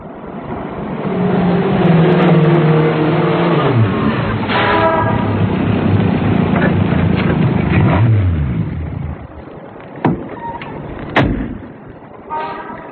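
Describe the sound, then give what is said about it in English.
A car engine runs loudly, its pitch rising and falling as it revs several times, then settles to a quieter idle with a couple of sharp knocks near the end. “Well, I got here about 9:55. I parked the car...”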